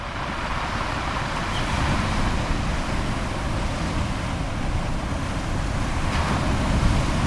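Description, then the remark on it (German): A steady, full rush of sea surf on the shore at Charlottenlund, a suburb north of Copenhagen, Denmark, with a deep rumbling low end and constant hiss. It continues without pause and no voices are heard. “Charlottenlund, ein nobler Vorort im Norden Kopenhagens, direkt am Meer gelegen.”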